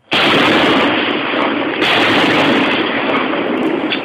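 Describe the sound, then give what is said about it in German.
Large fortress cannons fire for the last time from heavily armoured, still-secret bunkers in the Gotthard massif, Switzerland, with loud, booming blasts, a second shot landing partway through, their roar rolling on without pause as a long echoing rumble; no voices are heard. “Zum letzten Mal feuern die großen Kanonen aus den schwer gepanzerten und nach wie vor geheimen Bunkeranlagen im Gotthardmassiv.”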